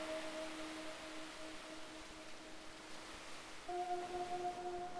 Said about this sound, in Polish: Wsłuchaj się teraz w szum fal.